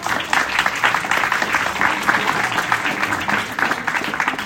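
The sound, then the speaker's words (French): An audience claps steadily and warmly for several seconds for a man who has just turned 90, at a talk before a book signing: a dense, sustained round of applause with no voices standing out. “Alors, pour revenir brièvement à votre vie, je dirais que vous êtes né en janvier 1936, vous venez de fêter vos 90 ans. Et on peut l'applaudir.”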